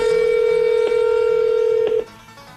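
A telephone number being dialed on the K104 morning radio show: a steady, mid-pitched phone tone hums for about two seconds, broken by a couple of brief clicks, then cuts off abruptly, leaving faint background noise.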